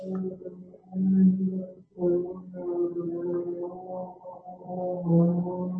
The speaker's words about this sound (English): Somebody's running a vacuum cleaner. That's what I'm hearing. That's my daughter up in her room. Holy crap. It is loud. Sorry about that. I'll mute myself. That is a loud one, isn't it? He still got that vacuum cleaner from the 70s.